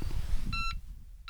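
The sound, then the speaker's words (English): A radiation detector's electronic alarm, sounding as something changes in the environment, gives a short, bright, steady beep, then starts another right at the end, over a low background rumble. No clicks stand out. “As soon as something changes in the environment, it will start to sound an alarm. So we hear the first click.”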